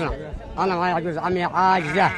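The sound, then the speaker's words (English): Several sheep and goats bleat, their wavering cries overlapping in a steady chorus that rises and falls over a couple of seconds with no talking; they are among thousands of goats, sheep and cattle brought by families expelled from Saudi Arabia. “And with these families came their animals, thousands of goats, sheep, and cattle.”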